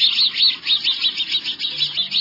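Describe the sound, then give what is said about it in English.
Sparrows chirp in a steady, rapid series of bright, high-pitched notes, repeating rhythmically about every quarter second with no voices present. “There's a lot of both in a nest, because when sparrows find a cavity they like, they'll fill up every bit of space before laying their eggs.”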